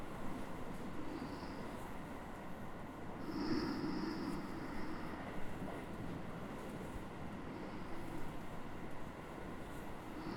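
A steady, low rumble from inside a moving train carriage fills the whole stretch, with a brief high whine rising and fading partway through. No one speaks.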